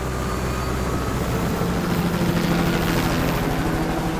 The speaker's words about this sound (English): All I could hear was the whir of the engine going away. The helicopter was gone.